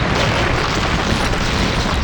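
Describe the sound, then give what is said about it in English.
A heavy, continuous rumbling roar of collapsing rock in a mine shaft cave-in, dense and loud throughout with deep low-end weight and no letup, and no voices. “The noise must have set off a cave-in!”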